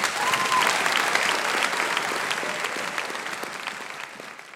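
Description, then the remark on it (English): A crowd at Vespers claps steadily for the sound technicians and volunteers, a dense wash of applause that stays fairly loud throughout and fades only slightly toward the end, with no one speaking over it. “can we just give it a round of applause?”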